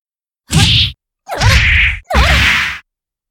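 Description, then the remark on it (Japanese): Three loud punch impacts land one after another at a steady pace, each a broad whooshing thwack with a sharp attack, as a woman punches an unguarded man in the face. No one speaks. “私のパンチが顔に当たるたびに情けない悲鳴出ちゃうね。”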